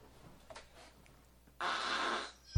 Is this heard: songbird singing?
no